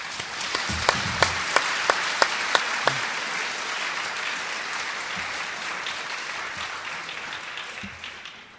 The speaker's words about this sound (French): Alors on va l'applaudir parce que je crois qu'il est à Lourdes en ce moment.